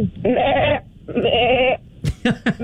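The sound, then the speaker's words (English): A person imitates a goat with two long, wavering bleats, followed by a few short breathy bursts, fairly loud with no other talk. “I can either do a goat or a chicken. Goat. A goat.”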